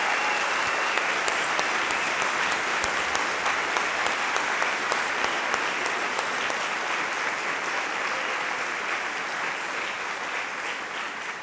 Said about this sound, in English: Pretty weird to ask people to applaud your wife, but there you go. All right. I just think it's worthy of being acknowledged.